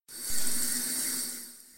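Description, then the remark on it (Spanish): Flowing, dirty, rising river water, looked at from a ravine bank, rushes in a steady, hissy stream for a couple of seconds, heard on its own at moderate level and easing off slightly toward the end. “mirando el río desde la barranca.”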